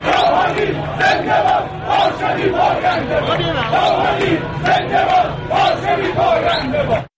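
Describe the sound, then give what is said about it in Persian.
A large crowd in the streets of Tehran, Iran, celebrates Hassan Rouhani's presidential election victory on Saturday after the results were announced, with loud, continuous chanting and cheering, many voices rising together in rhythmic bursts over a dense, unbroken roar. “روز شنبه بعد از اعلان نتایج انتخابات ریاست جمهوری ایران، هزاران نفر پیروزی حسن روحانی را در خیابان‌های تهران تجلیل کردند.”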